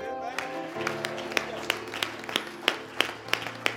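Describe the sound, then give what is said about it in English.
An audience at a Sunday evening church service claps hands in a steady, even beat, about three claps per second, over sustained keyboard or organ chords. The sharp claps stand out clearly above the music. “Man, we can clap our hands.”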